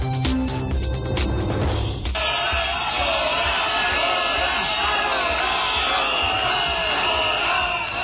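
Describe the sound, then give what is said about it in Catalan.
A large crowd of more than a thousand protesters in Barcelona shouts and chants continuously against the Spanish royal family's presence at the Palau de Congressos, with shrill whistles cutting through the roar; a brief burst of other sound opens before the loud, dense crowd noise takes over. “Ja ho senten, amb crits de fora i xiulets, més d'un miler de manifestants protesten encara a aquesta hora contra la presència de la família reial espanyola al Palau de Congressos de Barcelona”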